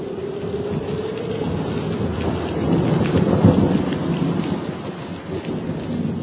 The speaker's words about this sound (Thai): หัวค่ำวันหนึ่งเกิดพายุมรสุมรุนแรงมากเสียงลมอื้ออึงดังสนั่นราวกับเสียงเครื่องบินไอพ่นฝนตกหนักกระหน่ำซัดหลังคากุฏิยิ่งดึกยิ่งหนัก